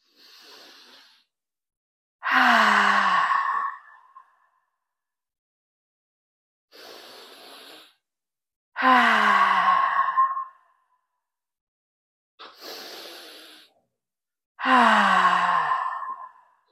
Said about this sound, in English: So let's take 3 deep breaths, pausing at the top and exhaling loudly.